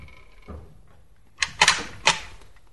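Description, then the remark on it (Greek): A door being closed quietly on a sleeping person: a soft low thump, then a short cluster of sharp latch clicks and knocks, with no voices. “Κλείσε την πόρτα σιγά.”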